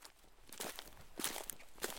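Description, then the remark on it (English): Footsteps of a figure walking nearby at a steady, unhurried pace, each step a soft scuffing crunch spaced roughly half a second apart, fairly quiet, with no voices. “Once he heard the sound of footsteps, he then saw a figure walking nearby.”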